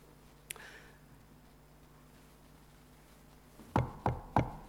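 Three firm knocks on the door of a house come near the end, evenly spaced and fairly loud, after a quiet stretch with one faint earlier tap and no talking.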